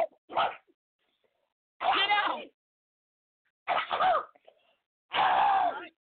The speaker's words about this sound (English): Cough it out, sister. Cough it out. Cough it out. Cough it out.